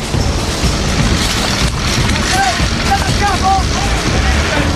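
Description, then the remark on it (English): A heavy vehicle driven by the Beach Boys team ploughs through the last bit of a building, a loud, continuous rumble of engine and crashing debris with a few short squealing scrapes near the end. “The Beach Boys are ploughing through the last bit of building.”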